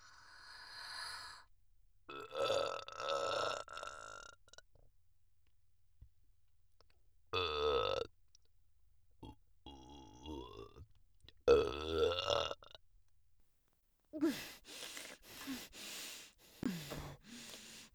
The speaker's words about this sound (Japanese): お腹の中からゲップがこみ上げてきたぞ。